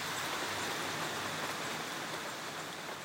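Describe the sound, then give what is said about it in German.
Steady rain falls at a retreat in a dense, continuous hiss with fine pattering detail, even and unbroken throughout, with no voices or other sounds. “So klingt dort der Regen.”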